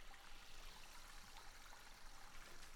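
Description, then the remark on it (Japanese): A soft, steady fizzing hiss of tiny bubbles popping from homemade soap made from forest herbs and flowers, lathered for washing hair, continuous for a few seconds, with a faint crackly texture and no voices. “森の薬草やお花から作ったもので、マナが活性化しているため少しだけ発泡しているんですよ。刺激的なシュワシュワを楽しんでくださいね。”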